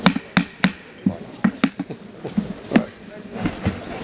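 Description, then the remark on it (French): A gavel raps sharply about ten times in an uneven rhythm to open an executive committee meeting in room 18, each knock crisp, with a faint murmur behind it. “Est-ce qu'il faut faire un peu de marteau pour”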